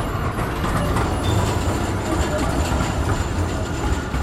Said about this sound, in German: Eine stark befahrene Ecke in der Innenstadt von Halle an der Saale. Mehrere Straßen treffen am Frankeplatz aufeinander. Straßenbahnschienen queren von Nord nach Süd und Ost nach West.